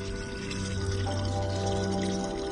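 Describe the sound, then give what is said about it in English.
Water runs steadily from the outlet of a public borehole in Mbare, a poor, crowded suburb of Harare, Zimbabwe, a continuous rush with a faint underlying hum, unbroken for the whole moment and no voices. “Marjorie Sande manages this public borehole in Mbare, a poor and crowded suburb of Zimbabwe's capital city”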